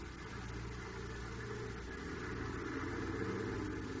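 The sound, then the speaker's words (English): The engine of a large tarpaulin-covered supply truck rumbles steadily as the truck moves out of a prison yard while the heavy gates open. It is a low droning hum with a rough mechanical texture that holds at an even loudness throughout, with no voices. “And in the prison yard, a large tarpaulin-covered supply truck moves out as the heavy gates open.”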